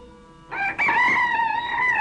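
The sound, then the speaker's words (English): A rooster crows once, loud, its first crow: a long harmonic cock-a-doodle-doo that rises sharply and holds its strained, wavering note to the end. No one speaks. “Ah, yes, the first crow of the cock.”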